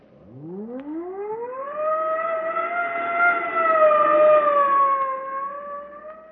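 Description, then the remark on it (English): A police car siren winds up from a low growl to a high, sustained wail that holds steady for several seconds, loud, with no voices. “Put that police siren in your pocket.”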